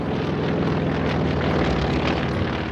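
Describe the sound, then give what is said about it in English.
A propeller airplane drones steadily overhead, its engine a loud, continuous buzzing roar with a low throbbing hum that holds constant throughout, with no voices. “Amelia Earhart is most famous for being the first woman to fly a plane by herself across the Atlantic Ocean.”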